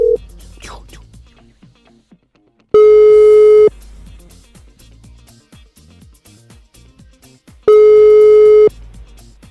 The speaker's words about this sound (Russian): Александр набирает заветные цифры, и мы ждем человечка, чтобы он взял трубку